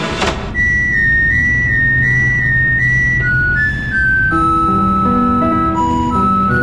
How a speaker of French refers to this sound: Ouvrez la fenêtre, vous allez entendre le camion qui joue une de mes œuvres classiques.